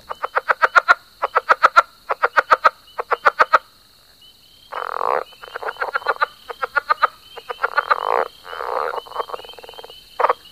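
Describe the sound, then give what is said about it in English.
A southern leopard frog, a medium-sized frog, calls in rapid, clicking chuckle-like bursts followed by rubbery, squeaky croaks, clear, with a steady high insect trill running underneath and no talking. “The leopard frog is a medium-sized frog with a call that sounds like someone squeaking a wet balloon or someone laughing or chuckling.”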